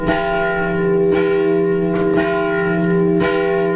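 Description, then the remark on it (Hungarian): Church bells ring steadily and loudly, with rich sustained tones and fresh strikes about every second, the overlapping peals blending into a continuous resonant wash with no voices, accompanying the unveiling and dedication of a new memorial after a thanksgiving church service. “Háladó istentisztelet után leleplezték, és a helyi általános iskola diákjainak közreműködésével, harangszóval kísérve felavatták az új emlékművet.”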